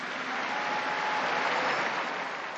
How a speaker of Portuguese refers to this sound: Um aplauso à nova Beata.